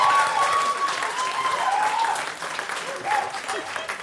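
A crowd applauds steadily, with dense clapping sustained throughout at fairly strong volume and a faint tonal whistle-like line threading through the noise.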